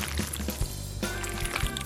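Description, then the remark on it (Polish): Wet, squelchy sloshing as raw chicken is stirred and tossed with salt, pepper, gyros seasoning, hot paprika and sweet paprika in a bowl, a steady moderate churning with soft irregular slaps and a low hum underneath. “I wszystko teraz dokładnie mieszamy.”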